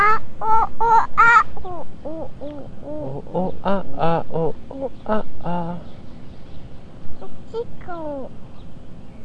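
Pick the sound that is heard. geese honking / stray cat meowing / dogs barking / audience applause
geese honking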